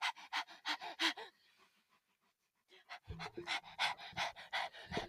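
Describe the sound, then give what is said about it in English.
A dog named Vivian pants heavily in quick, rhythmic bursts of breath, pauses briefly for about a second, then resumes panting just as fast with some faint low rumbling underneath. “Don't mind that heavy breathing, that's Vivian.”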